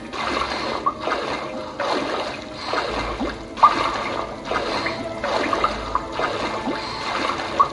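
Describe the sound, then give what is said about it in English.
Video game water sounds in a dark area of the game: steady, rhythmic sloshing pulses about once a second, with a few sharp, brief drips standing out. No one speaks. “I love the atmosphere in this game, the music, the dripping water, the sounds, it's absolutely fantastic.”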